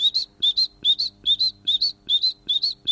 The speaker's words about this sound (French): petit chant d'oiseau. Tu as reconnu la mésange? Tout à fait. Voilà, la mésange charbonnière qui fait des...